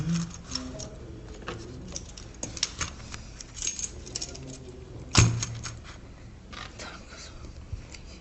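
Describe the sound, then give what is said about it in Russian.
Three keys jangle and clink on a key ring in a steady run of small metallic taps, with a sharper clatter midway and faint background noise underneath. “Так, три ключа должно быть.”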